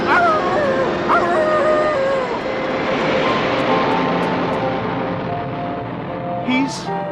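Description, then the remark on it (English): An airplane bound for Abu Dhabi departing: a loud, steady jet roar fills the whole stretch, with whining engine tones that slowly slide lower as it pulls away. “Stop that plane!”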